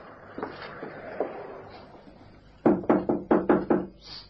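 knocking on a door

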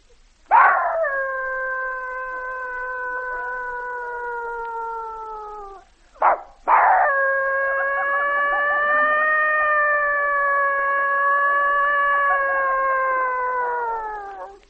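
dogs howling

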